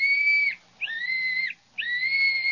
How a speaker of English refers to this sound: And he gave me this little whistle and said if we ever needed help, just to blow on it 3 times, and he'd come a-running.